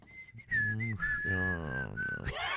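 Someone whistles a short song melody, clear notes stepping and gliding for a couple of seconds, with a fuller tone underneath and no talking.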